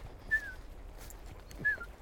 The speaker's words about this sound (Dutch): Een goudvink, jongens.